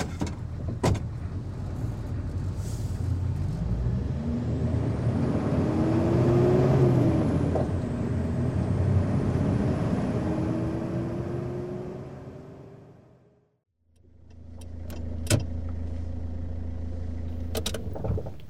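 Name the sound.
car interior ambience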